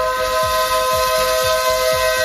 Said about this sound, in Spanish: Es el claxon de los vendedores ambulantes, el panadero, el carnicero, el pescadero, que, bueno, pues van con sus furgonetas, con sus camiones, ¿verdad?, vendiendo esa mercancía maravillosa en los municipios más pequeños de nuestro país